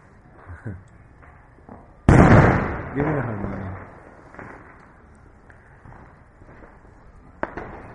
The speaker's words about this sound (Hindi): तो क्या करेंगे इस पटाखा के बीच? हम क्या यह चर्चा कर सकेंगे? मेरा ख्याल नहीं, मेरा तो संभव नहीं होगा। तो चलिए, हम केवल कीर्तन ही करते हैं आज। ये जो आवाज है ये केवल कीर्तन से ही इसको हम अवरोध कर सकते हैं।